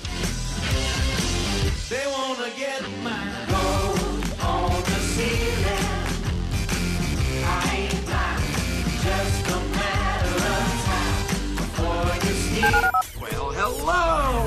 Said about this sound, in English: dial 713-780-ESPN. Dial the phone.